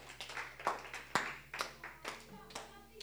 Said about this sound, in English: You can clap for Jesus. Why not?